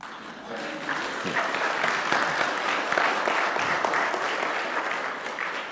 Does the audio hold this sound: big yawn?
no